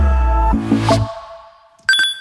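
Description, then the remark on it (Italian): An electronic alarm clock rings with a loud, bright run of repeating melodic beeps that fade out, followed by a sharp high chime near the end. No voices. “Come diavolo si ferma questa sveglia?”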